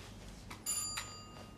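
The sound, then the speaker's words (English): A doorbell rings once, a bright metallic chime that sustains briefly and fades, heard fairly quietly with no voices; Anne rings the bell next to a door identical to Anthony's door, after coming out of heavy wrought iron lift doors. “Anne rings a bell next to a door identical to Anthony's door.”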